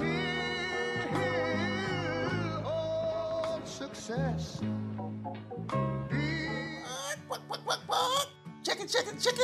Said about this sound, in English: Chicken.